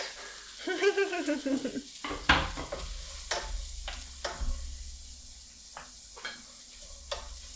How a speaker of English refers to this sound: Right, my butter is warm. So now I can add the vegetable. Oh, do you guys hear that sizzle?